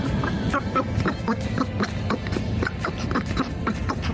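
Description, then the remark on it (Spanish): A garbled, heavily distorted voice like Donald Duck babbles in rapid bursts with a nasal, quacking quality on the COPE Cádiz radio broadcast, fairly loud, running continuously for a few seconds. “Parece el Pato Dona. ¿Qué te han cambiado?”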